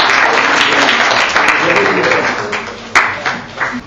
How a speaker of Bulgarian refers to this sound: Аплодисменти за своята дама.